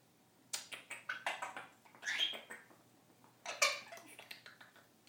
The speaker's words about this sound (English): Oh, you soppy bird. Another beak grinder.